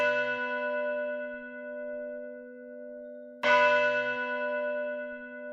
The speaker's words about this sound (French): Et les cloches de leur paroisse résonnaient seules dans le lointain.